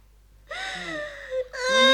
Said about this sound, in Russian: Ну, не надо. Ну, не плачь, малыш.